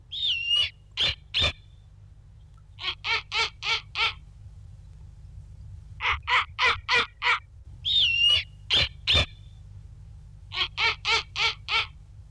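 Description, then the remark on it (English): Snowy owl calls ring out loud: harsh, barking notes in quick bursts of three to five, broken by a high, sliding whistled squeal, all over a steady low background rumble. “We have a second clip of a snowy owl, and we're wondering what is happening here in this sound, if you can kind of help us understand what's going on.”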